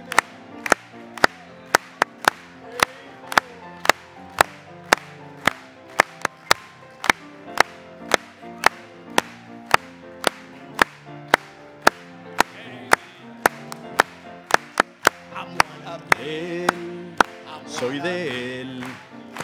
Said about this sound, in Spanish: Let's clap to Him one more time. Aplaudámosle una vez más.